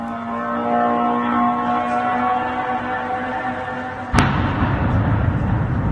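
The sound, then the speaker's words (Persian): The engine of an Iranian-made suicide drone whines steadily for several seconds before a single loud explosion cuts in sharply, leaving a rumbling, noisy aftermath. This is one of at least six such drones over the city of Bila Tserkva, 100 km south of Kyiv, at night. No voices. “با صدای زوزه موتور و انفجار دست کم 6 پهپاد انتحاری ساخت ایران، اهالی شهر بیلاچرک و در 100 کیلومتری جنوب کییف شب پر استرابی سپری کردند.”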